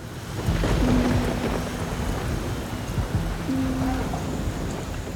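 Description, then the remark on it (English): Steady, dense rainfall hisses throughout, with deep rolling rumbles of thunder underneath. No voices, just a continuous wash of storm noise at an even, fairly loud level. “On a rainy October evening in 1849, a young newspaperman discovered Edgar Allan Poe.”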